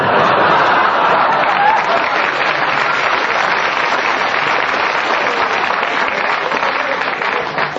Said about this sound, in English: The ruder they get, the more you applaud in just a minute, honestly.